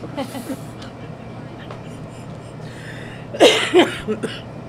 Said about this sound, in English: That cough comes from smoking a cigarette. I am smoking a cigarette and relaxing. I'm waiting for a customer so I can go pump gas.